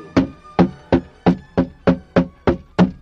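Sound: pounding on a door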